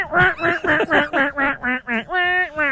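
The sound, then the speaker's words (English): A realistic hunting-style duck call, the kind used in real duck hunting rather than competition calling: a rapid run of about eight raspy, nasal quacks in steady rhythm, finishing with a longer drawn-out note and a short final quack. “So there's competition duck calling, and then there's real duck calling.”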